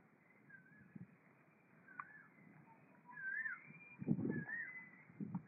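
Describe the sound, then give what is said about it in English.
Cuckoos call in a series of clear, rising whistled notes repeating every second or so, with dull low thumps and rumbling noise underneath. “So, cuckoos are singing.”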